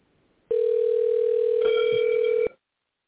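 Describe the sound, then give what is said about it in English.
A studio phone dials out to call someone into a show: the line's steady, mid-pitched dial tone hums for about two seconds, with a short keypad beep layered over it partway through, then cuts off. No one speaks. “If you're having trouble calling the show, just let me know and I'll call you from the studio phone.”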